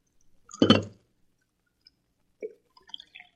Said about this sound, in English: Alpha poured coffee.